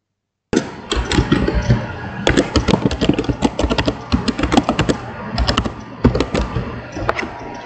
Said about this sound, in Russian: У меня есть друг, который все время жалуется на то, как у меня слышно клавиатуру.